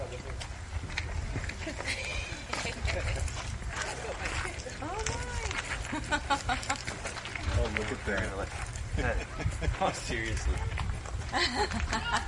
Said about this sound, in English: The reason I know it's a mama goat is because the baby goat came bounding toward her in just a few minutes from the right-hand side.